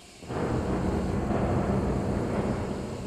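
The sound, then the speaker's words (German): A deep, sustained rumble of thunder from a thunderstorm rolls in after a brief quiet moment and stays loud and heavy throughout, with no voices present. “Das Gewitter hatte schon angefangen.”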